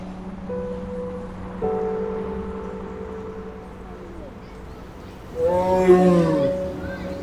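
A tiger roars, a low, rumbling growl that swells into a loud, harsh burst near the end, over a steady low drone in the background.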